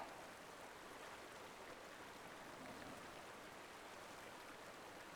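flowing river stream

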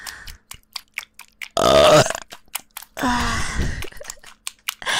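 burp

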